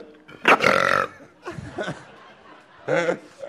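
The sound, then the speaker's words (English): A loud belch rumbles out, followed by a shorter gurgling burp and then a third brief burp, each separated by short pauses. “All right, I'll call you back tomorrow if I hear burping then.”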